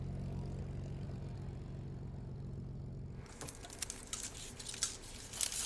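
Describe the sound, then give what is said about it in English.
A vintage Spitfire propeller fighter plane's engine drones steadily with a deep, throbbing hum, then gives way to a loud, rushing roar with crackling bursts of wind noise. No one speaks. “So to then be able to sit in this machine or to even fly it is an incredible privilege. These are the planes that saved Britain and Europe in its darkest hour.”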